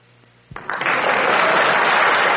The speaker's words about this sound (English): Wonderful round of applause for Lyle from our group down here